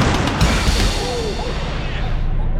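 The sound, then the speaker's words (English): A heavy train crash as the engine slams into a stalled wooden caboose: a loud splintering smash of wood at the start, followed by a continuous roaring, rattling rumble of metal and debris that stays loud throughout. “The engine of the train slammed into the stalled caboose.”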